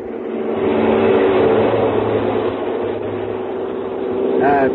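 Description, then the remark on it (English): A brand new air-conditioned car's engine revs up and pulls away in Sarasota, a steady loud mechanical drone throughout that swells again near the end as the car drives off. “Then a ferry plane to Sarasota, where I was met by Earl Poorman, as usual, in a brand new air-conditioned car.”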